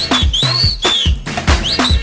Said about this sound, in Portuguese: Eu quero ouvir o assobio dos homens.